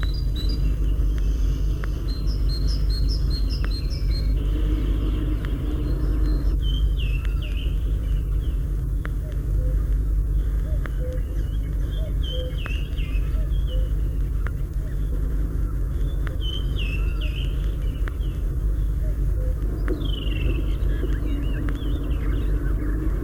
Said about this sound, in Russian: Это песня большой синицы. Ее можно встретить всюду, в лесу, в деревне, даже в городском саду.